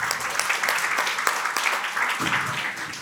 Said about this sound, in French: Merci beaucoup à l'équipe technique. On les applaudit.